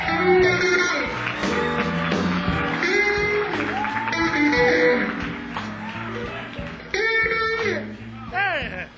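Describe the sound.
A crowd applauds steadily for about nine seconds, a dense wash of clapping mixed with a voice and sustained musical tones, the loudness holding fairly even before dipping near the end.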